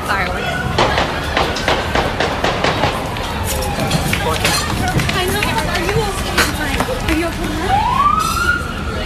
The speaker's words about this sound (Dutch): Nou, je hoort het duidelijk, een aantal schoten. Mensen rennen ook weg van de terrassen. Die zaten natuurlijk allemaal buiten.